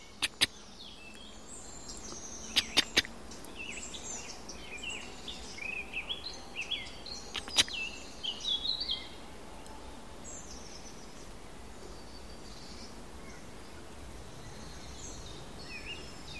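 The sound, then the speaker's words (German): Soft, high chirping calls of a red squirrel sitting very still in a sunlit tree repeat in scattered bursts over a quiet outdoor background, with a few sharp clicks early on and no one speaking. “Das ist das Eichhörnchen, es sitzt gerade sehr still, aber man hört diese leichten Rufe.”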